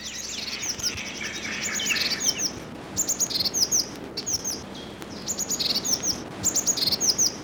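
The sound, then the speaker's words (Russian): A Eurasian blue tit calls in the Hannibal Alley among 200-year-old spruces, in repeated bursts of high, thin chirps and trills, clear over a steady outdoor hiss, with no one talking. “В аллее Ганнибала 200-летние ели и неизменная лазоревка.”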